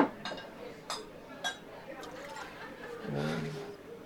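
About 2.5 ounces of Blanton's bourbon is poured into a glass for a cocktail, after simple syrup and sugar: a few light glassy clinks, then a brief gurgling splash of liquid filling the glass near the end, moderately quiet.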